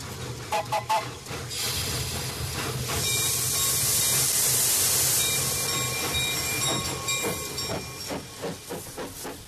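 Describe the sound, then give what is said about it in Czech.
A steam locomotive at a railway station in Serbia in 1915, late in the evening, on a train bound for Niš and Russia, chuffs in quick rhythmic bursts, then lets out a long, loud hiss of venting steam over a low rumble before the chuffing picks up again. “Sišli smo kasno uveče na železničku stanicu da sednemo u voz za Niš i za Rusiju.”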